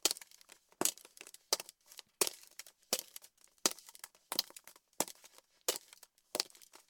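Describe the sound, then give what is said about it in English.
Sharp, bright clicking steps land at a steady walking pace, about ten across the stretch, each followed by a brittle crunching, crackling rattle as heels strike over glass balls. No voices. “Woman walking over glass balls in high-heeled shoes.”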